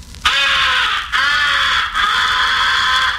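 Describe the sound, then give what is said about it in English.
A crow comeback call blown on a game call gives three long, raspy, drawn-out caws in quick succession, loud, with no voices present; the call is used on incoming crows and to bring back crows that have been shot at. “The fourth essential call is the comeback call. It is used mixed with the recognition call and the fighting call on incoming crows.”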